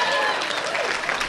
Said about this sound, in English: That's right. There you go. Clap for yourselves.